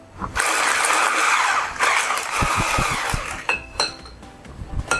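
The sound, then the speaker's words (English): An electric mixer whirs steadily, whipping cake batter of butter, sugar, yogurt, coffee and vanilla in a mixing bowl with a bright, buzzing motor drone, then stops, followed by a few knocks and clinks of the beaters against the bowl. “This is whipped well.”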